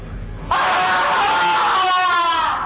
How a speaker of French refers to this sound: Ce sont des cris qui viennent de la boutique de Totalito.